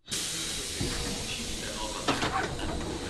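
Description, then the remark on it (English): A train door slides open with a sustained pneumatic hiss as a passenger gets off in the town of Parma, northern Italy, with a brief clunk and rattle partway through as it moves, fairly loud against a steady background rush. “I'm getting off the train in the town of Parma.”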